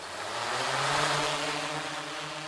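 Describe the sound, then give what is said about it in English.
A steady, loud electric whir with a buzzing hum and layered harmonic tones as the electric motors of a small, two-foot-wide, black-and-white four-propeller drone start up in a dusty field in central Fresno, holding an even pitch for a few seconds with no voices. “In a dusty field in central Fresno, wedding photographer and hobby drone enthusiast Chris Geiger fires up the electric motors on his small four-propeller helicopter.”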